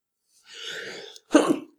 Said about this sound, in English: Bless you.